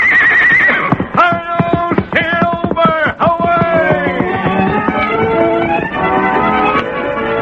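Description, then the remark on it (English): The Lone Ranger's big white stallion, Silver, neighs loudly in a long, shrill, quavering whinny that rises and falls as he is readied to ride, while sharp hoofbeats clatter beneath it throughout. No one speaks. “The big horse seemed to know what was expected, and his nostrils quivered in eagerness to be off and away, carrying the masked man to new adventure.”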